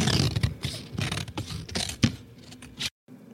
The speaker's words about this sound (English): That's a lovely sound, isn't it? Heavy paper being cut with sharp scissors. It reminds me of grade school teachers.